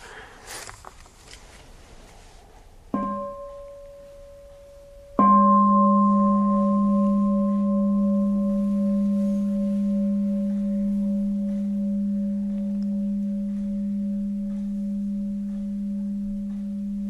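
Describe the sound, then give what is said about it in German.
A mindfulness bell is struck twice: first a brief, softer tap, then a full strike whose low, steady hum and overtones ring on and slowly fade over many seconds, with no talking. “Da magst du eine Glocke.”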